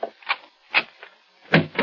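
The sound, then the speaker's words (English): A door being opened: a quick series of clunks and rattles as a handle and latch work, then a heavier knock near the end. No one speaks. “Open the other door”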